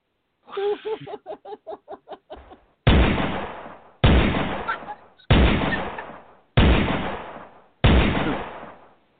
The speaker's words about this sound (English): Where's the gunshot? Where's the gunshot?